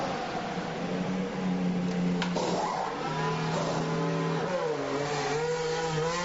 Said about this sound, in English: Let's see how fast a Formula One car goes.